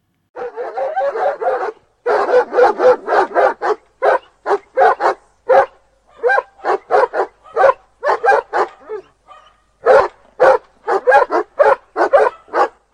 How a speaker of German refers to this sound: Und er bellte aus Leibeskräften.